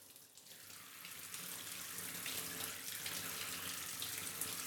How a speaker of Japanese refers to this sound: よし、じゃあシャワーで流すから、まだ目はつぶったままでいて。